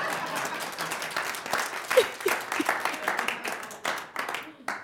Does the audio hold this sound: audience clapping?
yes